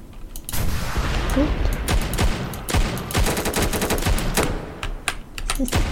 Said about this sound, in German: Ein Hit. Scheiße, auch nicht gehittet. Wieder 8 Schüsse.